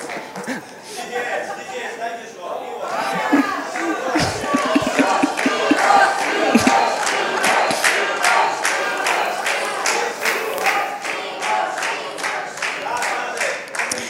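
An audience cheers and applauds, with a dense burst of clapping and excited shouts building in the first seconds and then sustaining as steady, loud applause throughout.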